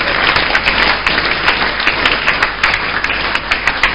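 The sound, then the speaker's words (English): A crowd claps steadily for a man, dense overlapping handclaps forming a loud, continuous patter with scattered sharper hits standing out, no voices breaking through. “Let's clap for him.”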